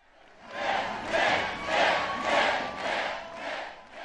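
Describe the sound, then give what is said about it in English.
A large, excited crowd of supporters cheers and chants at the Romney-Ryan campaign's first event with Ryan on the ticket, in Norfolk, Virginia. The cheering comes in steady rhythmic surges, roughly one swell every half second, loud and dense, with no single voice standing out. “The campaign launched its first event with Ryan on the ticket in front of an excited crowd of supporters in Norfolk, Virginia.”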